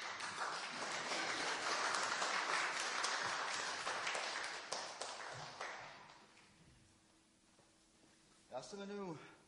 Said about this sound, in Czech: Dokonce mi někteří i tleskají a to mě velice těší.